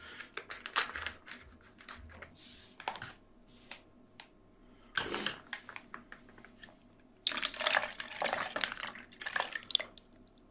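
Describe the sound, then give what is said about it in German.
Splashing and trickling as water is poured off, coming in several noisy bursts with short quiet gaps, the longest and loudest pour near the end. No one speaks. “Dieses ASMR immer, wenn er dieses Wasser so abschüttet.”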